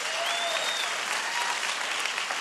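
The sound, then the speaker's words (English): A live audience applauds a guest, an NPR journalist, steadily, dense clapping at a fairly loud, even level throughout, with a faint whistle rising briefly near the start. “Something else you mentioned in this book, yeah, I think that's worth a round of applause.”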